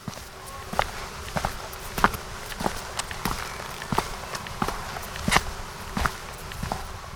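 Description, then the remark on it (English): Steady footsteps walk at an even pace along a hard street surface, on Karl Knutssonsgatan in Söderköping, heading toward the town center. Each step is crisp, with a faint outdoor hum in the background and no talking. “Listen to the footsteps, try to follow them and keep in step.”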